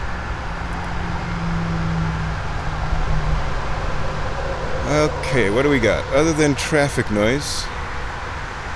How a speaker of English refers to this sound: Other than traffic noise, we've got not a lot. Traffic noise and wind. Got wind blowing the leaves out of the trees.